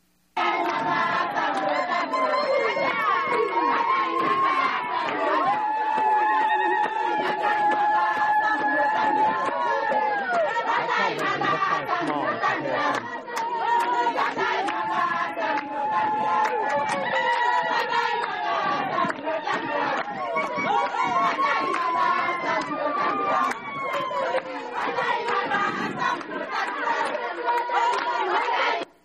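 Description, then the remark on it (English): A large village crowd celebrates a visiting team's arrival with palm branches, many voices shouting, chanting and singing together in a dense, excited din that holds steady for the whole half minute. “they have that kind of a celebration when we arrive in a village”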